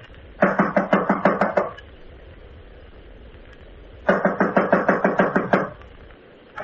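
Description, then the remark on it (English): Two bursts of quick, firm knocking on a second-floor apartment door, each about a dozen sharp raps in a steady rhythm, separated by a few seconds of quiet. No one speaks. “This is it. I'll knock.”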